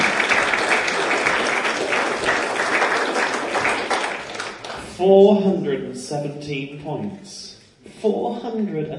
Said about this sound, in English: I think this is a round of applause just for that, really.